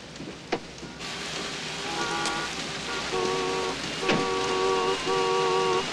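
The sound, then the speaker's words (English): Heavy torrential rain pours down in a steady, dense hiss on gridlocked city traffic, while car horns honk repeatedly in short tonal blasts and a few sharp knocks cut through. “He gets out of the cab into the torrential rain.”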